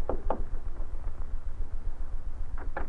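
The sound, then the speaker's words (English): Two quick pairs of knocks on the wooden door of Powell's house, one at the start and one near the end, over a low steady rumble with a quiet pause between, and no one talking. “It was about a half an hour later when Northcott rapped on the door of Powell's house.”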